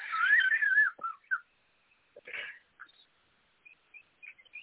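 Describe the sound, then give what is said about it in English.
A pet bird lets out a bright warbling whistle, then a string of short chirps and tweets with pauses between them, clear with no talking. “Yeah, and actually, Fagla was very quiet today because the bird that was behind Matt, she's like, I got this.”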